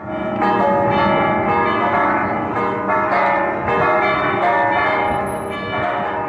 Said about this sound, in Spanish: la dividí en 4 secciones, cada una de ellas con una duración de 15 minutos y que termina en un repique a rebato de las campanas principales.